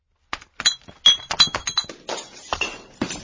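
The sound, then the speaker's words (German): Beer bottles fall and break in a rapid, clattering cascade of sharp glass clinks and crashes as a woman carrying beer stumbles, fairly loud, lasting a few seconds with no voices. “Noch bevor sie Herrn Pack mit einem Bier beglücken kann, stolpert sie und liegt inmitten zerbrochener Bierflaschen.”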